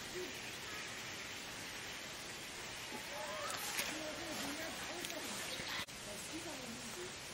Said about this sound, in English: Yeah, this is a big natural source, and the water coming out of nowhere, you're like.